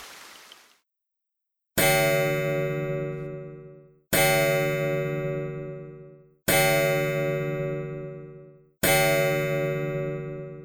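A clock chimes midnight in an inn room, with four loud, resonant strikes spaced evenly a couple of seconds apart, each tone ringing out and slowly fading before the next, with no voices.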